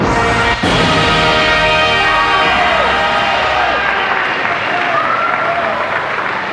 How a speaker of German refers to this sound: Ja, meine Damen und Herren, wenn der Beifall gerade so anhält, kann ich gleich die Band vorstellen, die uns heute Abend mit Swing und guter Laune unterhalten wird.